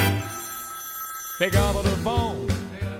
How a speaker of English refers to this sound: Pick up the phone. I know you're home. Pick up the phone. You're all alone. Pick up the phone and say something sweet to me. It rang once, twice, three times.